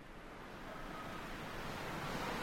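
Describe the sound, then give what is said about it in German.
Strong, cold wind blows high up in the mountains in a steady, loud, rushing roar that swells slightly toward the end, with no voices or other sounds. “Ah, verfluchter Wind! Hier oben ist es richtig frisch, aber die Aussicht ist gut.”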